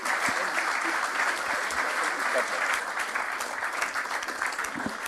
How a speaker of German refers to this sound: wir bitten um einen donnernden Applaus.